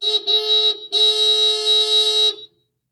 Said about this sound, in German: Hupende Autos.